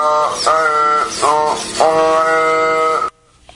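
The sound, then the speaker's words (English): A robotic mouth that replicates human speech using an air pump for lungs, a silicone tongue and eight artificial vocal cords produces a loud, buzzy, vowel-like voice in four joined stretches at a steady pitch, sounding like strained bleating, before cutting off abruptly after about three seconds. “It's physically replicates human speech using an air pump for lungs, a silicone tongue, and 8 artificial vocal cords.”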